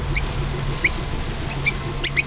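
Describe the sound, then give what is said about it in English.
A tiny mouse squeaks repeatedly as it scurries around in circles: short, high, thin chirps come in irregular bursts, several clustered toward the end, over a low steady rumbling hum. “It scurried around in circles, stopping occasionally to look up at him while squeaking incessantly.”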